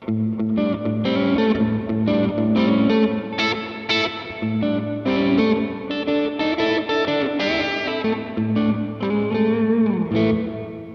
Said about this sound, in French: Au niveau de la reverb, on a trois sortes de reverb. On a la reverb à ressort, la reverb en hall, et puis une reverb encore un petit peu plus serrée. Et ça sonne génial.